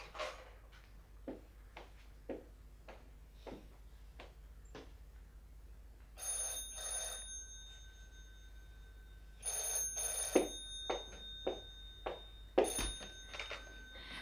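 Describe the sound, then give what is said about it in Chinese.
A telephone rings in repeated bright, trilling bursts, fairly loud, after a run of sharp, evenly spaced clicks or taps; no one speaks. “你这么心急做什么啫？刚刚才打过电话来。”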